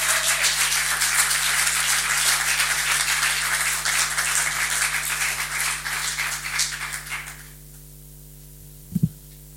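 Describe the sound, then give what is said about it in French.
An audience at the Factory applauds steadily for about seven seconds to welcome an author invited to speak about her published text, a dense wash of many hands clapping, then it fades out, leaving a low electrical hum and a brief thump near the end. “Je vais lui donner la parole immédiatement, si vous pouvez applaudir.”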